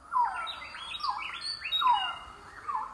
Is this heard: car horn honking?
no